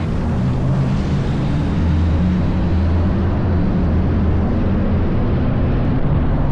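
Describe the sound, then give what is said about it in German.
A hyperloop test capsule gliding through its vacuum tube in the Netherlands: a steady, loud rushing roar with a deep low hum and broad hiss that holds constant throughout, no voices present. “Und so klingt die Versuchskapsel Hyperloop, wenn sie durch die Röhre schwebt.”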